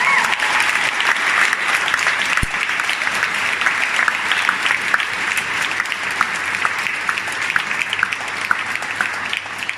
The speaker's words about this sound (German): Und deswegen kann ich nur sagen, einen riesen Applaus mal für meinen Papa und für Jesus.